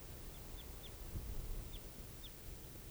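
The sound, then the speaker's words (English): A series of short, high chip-like bird calls, five in all, spaced irregularly over a steady low background rumble; the calls are faint but clear, from a type 4 crossbill perched out in a clearing. “So recording this crossbill here. I think it's perched somewhere out in the clearing.”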